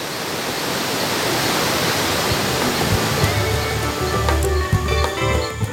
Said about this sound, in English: one of the highlights of the boat trip is a waterfall in the rainforest, and it's a chance to wash for the first time in 3 days.